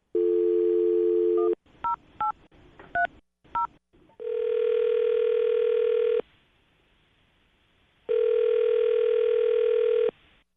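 A phone's steady dial tone gives way to a quick run of touch-tone key beeps as a woman's phone number is punched in for a call from the radio show Brooke and Jubal in the Morning, followed by two long ringback tones separated by a pause.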